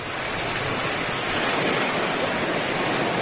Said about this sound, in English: The river comes down here and merges with the Bay of Bengal and the Indian Ocean. We're on the beach!